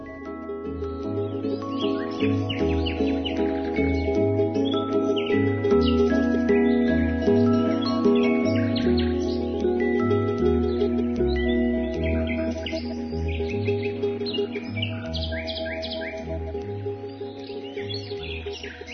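Busy bird chirps and tweets flutter over a steady musical backdrop with a repeating bass pattern, the calls fairly faint and continuous throughout, with no one speaking.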